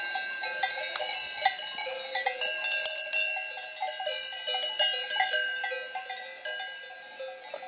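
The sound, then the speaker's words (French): Cow bells clank and ring continuously in an overlapping, irregular jangle, several metallic tones at once with bright ringing overtones, and no voices. “Mais tu te rappelles la première fois que tu as entendu les cloches des vaches?”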